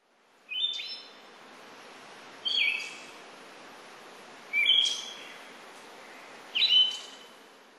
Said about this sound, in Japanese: マミジロです。